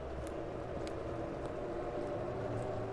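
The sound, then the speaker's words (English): A low, steady engine drone from a boat passing quietly on the river in Antwerp on a freezing night, faint and continuous, with a soft rumbling hum and no voices. “The lights are lit in the streets now, and I know boats are passing quietly over the river.”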